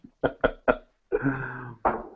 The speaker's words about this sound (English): Then I apologize for the burp, but for nothing else.